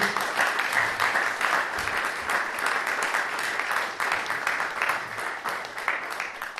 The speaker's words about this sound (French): Voilà, alors je vous demande d'applaudir notre lauréat.